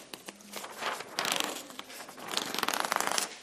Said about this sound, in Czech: Dá se to takhle odtrhnout, tady je taková jako lepící taková jako část. Když to odtrhnete, nalepte to možná asi tamhle, třeba tamhle jako na to sklo, že to je jako lepidlo takový jako neškodný, jo, předvedu. Trhám.